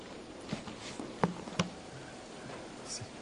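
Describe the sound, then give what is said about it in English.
Steady, hissing heavy rainfall fills the background, with a few sharper taps of drops standing out now and then; no one speaks, and the downpour sounds somewhat muffled. “It's raining so hard you're having trouble hearing me, I guess.”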